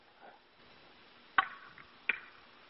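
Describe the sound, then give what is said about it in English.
Two sharp, hollow wooden knocks as a stout, untreated wooden clothes-closet pole is struck against a tree trunk in the woods, spaced about a second apart over a quiet hiss, with no voices. “Just tree knocked.”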